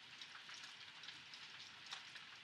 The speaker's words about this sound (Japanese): 雨は止んではないけど、さっきよりは弱くなってるね。傘さして帰るのはめんどくさいけど、仕方ないか。